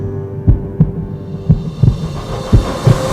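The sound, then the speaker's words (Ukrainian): A steady heartbeat pulses in paired lub-dub thumps, three beats at a slow, even pace, low and muffled over a faint droning hum, with no voices. “Ось пульс.”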